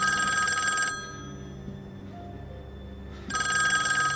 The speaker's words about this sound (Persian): تلفن لابی نزدیک اتاق جلودار.